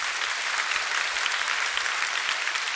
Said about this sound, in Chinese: 哈利路亚，再次拍手给上帝。